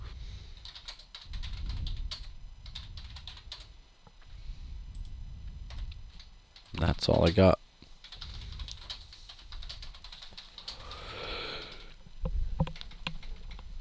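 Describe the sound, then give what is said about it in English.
Fast, irregular clicking of fingers typing on a computer keyboard, steady for most of the stretch, with a brief louder clatter midway and a few quiet spoken words. “I don't know why I'm having difficulty typing all of a sudden.”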